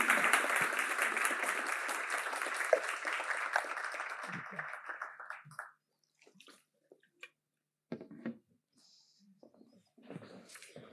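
An audience claps steadily for about five seconds for Lars Calmfors, the first speaker at a debate, a dense, loud burst of applause that fades out, followed by quiet shuffling and a few faint sounds.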